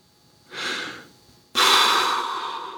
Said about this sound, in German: Schnaufte der Bühnenbildner.